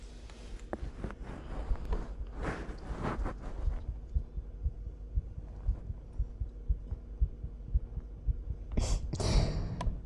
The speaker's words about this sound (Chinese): 感受到了吗？是不是姐姐的心跳比常人的都要快啊？起码比你的快吧。